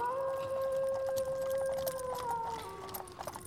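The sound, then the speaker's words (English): A wolf howls from far down a road through a mountain pass near midnight, a long, drawn-out howl holding a steady pitch before sliding slowly downward, over a faint, hissing background of rising wind. “A wolf began to howl somewhere far down the road.”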